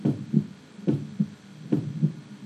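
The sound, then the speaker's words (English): A steady heartbeat thuds in low, muffled double pulses, three lub-dub beats repeating at an even rhythm over a faint hum, with no voices, as the soundtrack of a video clip mapping world population. “What you have here is a picture of the world, little signs coming up of what's going on at the time, and every dot on the map is a million people, and all you hear in the soundtrack is a heartbeat.”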